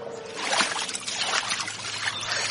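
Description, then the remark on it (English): River water splashes and trickles steadily as a boy swims in a clear river with reeds and water lilies, a continuous wash of bubbling and sloshing with no one speaking. “Thought a swim might cool me down.”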